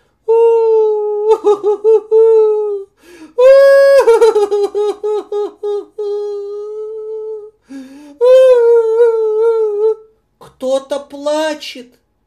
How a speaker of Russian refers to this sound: Кто-то плачет на темной улице, в углу, в темном, кто-то стоит маленький и плачет.